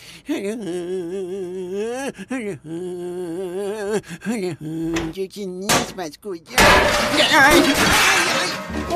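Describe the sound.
A wavering, tonal voice carries on for several seconds, then a loud, sustained clatter of bowls, plates and pots breaking and crashing erupts and fills the last couple of seconds.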